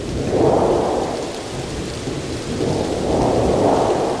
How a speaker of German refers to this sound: Das alles aber wird von einer so naturgetreuen Darstellung eines Gewitters mit solch heftigem Regen, Wind und Donner übertroffen, dass man sich tatsächlich einem sehr starken Unwetter ausgesetzt glaubt.